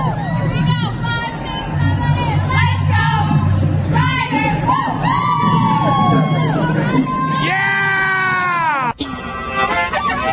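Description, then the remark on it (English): Cheerleaders of the Rider Cheer Squad at Riderville cheer and whoop together in loud, high-pitched overlapping shouts, with long rising and falling yells over steady crowd chatter, ending in one sustained shrill cry. “Locker on the Loose with a guest appearance from the Rider Cheer Squad.”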